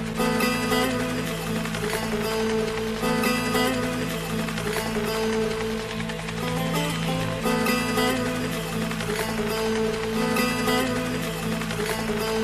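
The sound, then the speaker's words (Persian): The Imam's helicopter approaches the stand, its engine and rotors droning loudly and steadily throughout, a dense mechanical roar with humming tones that stays constant, with no voices. “اگر خطا نکنم این هلیکوپتر امام است.”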